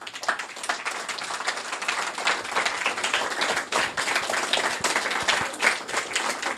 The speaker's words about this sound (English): Big round of applause.